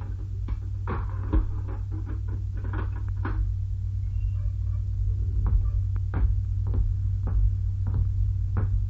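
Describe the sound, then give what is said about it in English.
On an order to open it, a heavy cell door is unlocked and opened, a series of sharp metallic clanks and rattles spread unevenly over a steady, loud low-pitched hum, with no voices. “Open the door of this”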